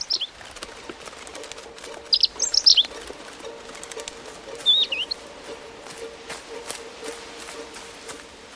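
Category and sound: bird, robin chirping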